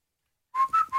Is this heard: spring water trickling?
no